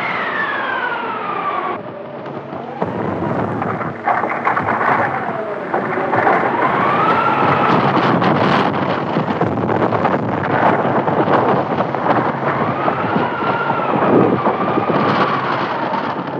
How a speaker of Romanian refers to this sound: S-a pornit vântul! Simunu! Vântul deșertului! Vedeți vârtejul așa la negru? Da, da. E o trombă! Se apropie vertiginos. În câteva minute va fi aici.